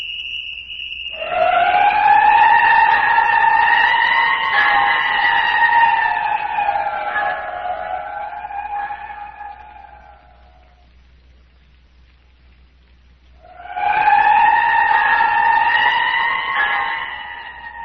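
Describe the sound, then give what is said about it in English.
In the radio drama The City of the Dead, a loud alarm whistle sounds in two long, sustained blasts, the first about nine seconds and the second shorter, with a steady, slightly wavering pitch and a brief silence between them. No one speaks. “Something's happened to Phyllis! Don't you hear the whistle?”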